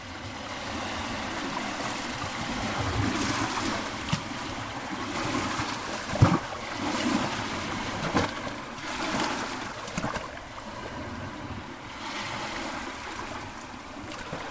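nature, sea water

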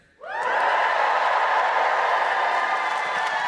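crowd, audience cheering

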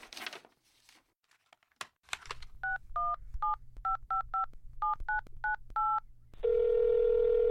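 machine, telephone number being dialed

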